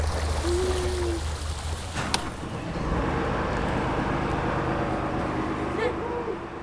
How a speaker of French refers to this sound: La péniche, on dirait qu'elle est ancienne. Elle a des rayures, elle a des salissures, elle est marron, noire. Qui veut démarrer le moteur ?